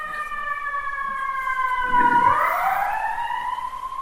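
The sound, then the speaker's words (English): An ambulance and fire engine siren in New York sweeps past, its loud sustained wail bending lower in pitch midway as it goes by, with a low traffic rumble underneath and no talking. “And then Prabhupada was thinking, now Prabhupada will give him a lecture in New York once in an ambulance and a fire will get passed by in a heavy siren.”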